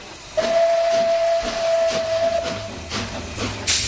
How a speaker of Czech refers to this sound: Osobní vláček projel Karlštejnem, zahoukal a zamířil do krajiny skal a údolí řeky Berounky.